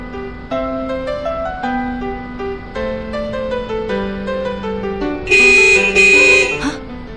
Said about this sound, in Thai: บีบแตรให้หมาเสียกำลังใจค่ะเห็นมันตั้งท่าจะข้ามถนน